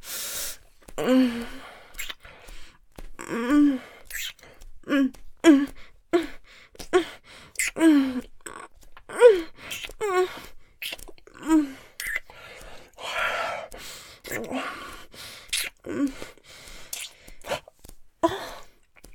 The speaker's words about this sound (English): Such wonderful noises you're making, moaning and gasping. Do you love this?